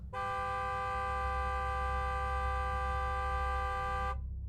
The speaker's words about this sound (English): We all stopped in our tracks and listened. We then heard my girlfriend's car horn sound off in the distance.